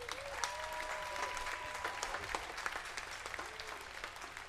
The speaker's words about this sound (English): Please give a warm round of applause for Spencer Stewart on the bass.